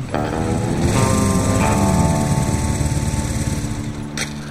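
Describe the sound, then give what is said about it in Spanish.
A motorcycle engine runs loudly and steadily, its buzzing drone shifting pitch a couple of times as it throttles, then easing slightly toward the end. No one speaks. “¿Desde cuándo andas en moto?”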